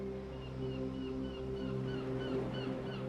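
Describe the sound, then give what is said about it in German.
A steady wash of ocean waves with a low, constant rumble, while seagulls, slowly settling for the night, call thinly above it in short, rising notes. “Höre den Gesang der Möwen, die sich langsam für die Nachtruhe zurückziehen, und das Rauschen der Wellen, das einen hypnotisch beruhigenden Effekt auf deinen Körper und Geist hat.”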